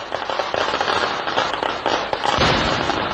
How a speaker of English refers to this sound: Exploding fireworks triggered a string of powerful explosions and sent fireballs high into the sky. Thousands of devotees had packed the Patingal Devi Temple in the coastal district of Kollam to watch a midnight fireworks show.